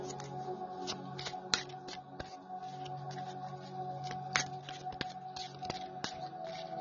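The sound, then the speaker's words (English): A deck of cards being shuffled, with a steady stream of soft riffling and papery flicks punctuated by sharper snaps, continuing without any talking. “We're shuffling this and we're going to see what we get”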